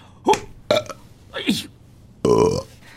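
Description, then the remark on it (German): A run of four burps caused by swallowed air: three short, croaky belches spaced apart, then a longer, louder, sustained one with a low buzzing tone at the end. No other sounds. “Ach, diese verfickte Luftschluckerei!”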